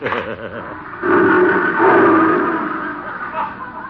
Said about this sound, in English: What was that? Oh, that's Leo, my big lion.